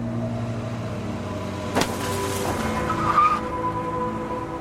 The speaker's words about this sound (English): I swerved around the building and onto Main Street past a pair of security floodlights. A truck drove by, clipping my bumper.